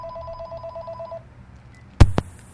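A telephone rings at the Kill Radio studio with a steady electronic tone for about a second, then falls quiet before a sharp, loud click like a handset being picked up.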